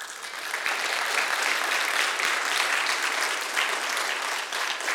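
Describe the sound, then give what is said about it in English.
Sustained audience applause for the American flag: many hands clapping in a dense, steady roar that holds at a fairly even loudness for about five seconds, with no voices standing out. “I don't say that for applause for that flag.”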